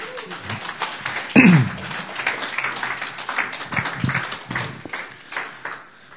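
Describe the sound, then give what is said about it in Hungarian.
An audience applauds to welcome a speaker, a dense, steady wash of many hands clapping that carries on for several seconds at a fairly even loudness, with no one talking over it. “És fogadjuk nagy-nagy-nagy szeretettel, és tapsal!”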